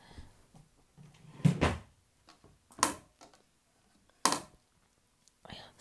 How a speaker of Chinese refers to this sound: 哦，对了，我去姐姐抽屉里翻一下，看看有没有。